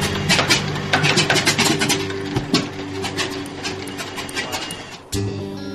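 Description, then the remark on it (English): An engine that has been sitting for a couple of months cranks over and over with a steady mechanical whir and rapid, rhythmic clattering, never catching or firing; the cranking pauses briefly near the end before resuming. “And when he tries to start one of the engines...”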